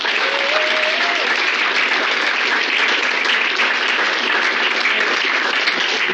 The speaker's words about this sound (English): So before I begin and offer some of my comments, I just wanted to again recognize Left Turn and congratulate them on 5 years. I can't believe it, or even 5 years. I've only been reading it for two. So how about a round of applause for Left Turn?